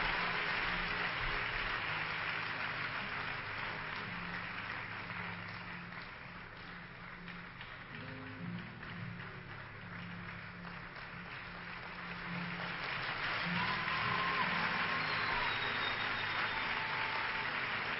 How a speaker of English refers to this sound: Please, church, one more time, give them a clap offering. Let's celebrate them.